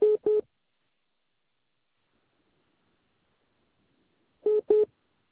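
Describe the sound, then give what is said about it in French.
A pair of short electronic phone beeps sounds, followed by a long silence, then another identical pair of beeps, signalling an incoming service call during a phone conversation. “attendez, patientez deux secondes, s'il vous plaît. Parce que là, j'ai un appel service qui vient patienter.”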